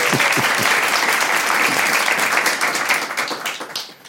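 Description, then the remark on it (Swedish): An audience applauds steadily, a dense wash of many hands clapping at once that holds strong before tapering off toward the end. “Ja, det är värt en applåd.”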